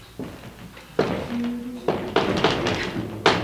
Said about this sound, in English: Yeah. Yeah. Rappings. And they interpret this as the spirit of that murdered, I think it was a murdered sailor or something like that, attempting to communicate with them.